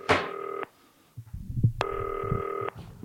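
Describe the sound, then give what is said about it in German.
Two long electronic ringback tones of an outgoing phone call to the Zillertal, each a steady buzzing tone lasting under a second, separated by a pause with faint low rustling or handling noise. “Und dann rufe ich da mal an.”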